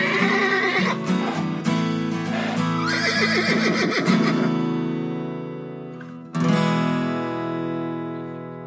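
Two domestic palomino horses fighting, neighing and squealing loudly, a long shrill whinny fading out, then a second sharp cry bursting in near the end. No one speaks.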